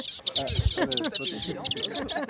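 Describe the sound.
A subalpine warbler gives a rapid series of thin, high chattering call notes, steady, while people talk quietly underneath.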